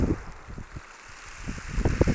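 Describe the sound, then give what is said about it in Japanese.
Sea waves pull back off the shore in a steady rushing wash, with bursts of gritty, crackling rattle that ease off midway and then swell louder toward the end. No one speaks. “あ、この波が引く時の音がいいですね。”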